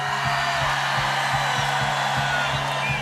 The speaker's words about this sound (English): Hands up, hands up. Seid ihr ready? 1, 2, 3, scream!